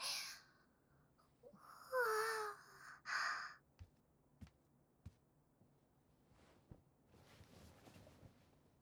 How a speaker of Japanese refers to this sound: まったく、人前でみっともないあくびさらして。私にまで映っちゃったじゃないの。